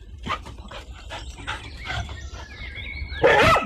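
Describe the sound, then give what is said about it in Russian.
A large dog barks in a rough series of short bursts as it runs at a smaller dog, building to a louder, harsher outburst at the end, with no one talking. “Тут к Бимбо подбежала большая собака, явно собравшись напасть на него.”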